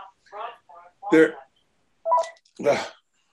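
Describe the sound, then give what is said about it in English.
A telephone rings in a short run of four electronic tone bursts, warbling, with brief silences between them and no other sounds around. “And yet the low tech responses, that's another phone, sorry about that.”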